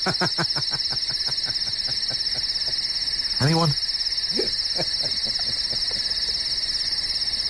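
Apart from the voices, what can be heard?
chirping crickets sound effect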